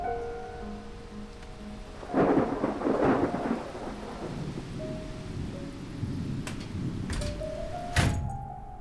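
Steady rain hisses throughout while thunder rumbles in a heavy burst early on, followed by sharper cracks and a loud clap near the end. No one speaks.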